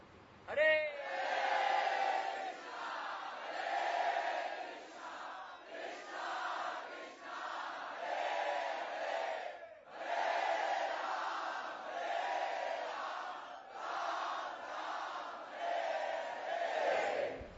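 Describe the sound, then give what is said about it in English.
A large crowd shouts together at full volume in sustained bursts, with brief breaks between swells of massed voices, sounding like a loud, unified group yell or chant. “Let's try really, really loud so they can hear in Juhu.”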